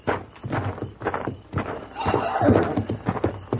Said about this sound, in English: Listen. The horses, there's somebody out there.